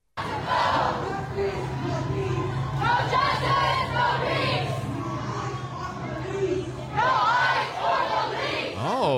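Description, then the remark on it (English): A large crowd of protesters chants slogans against immigration enforcement, such as "No ICE or police", in unison, loud rhythmic shouted phrases repeating in waves over a steady low hum, voices rising and falling together throughout. “It's hard to keep the crowd worked up when they keep repeating themselves.”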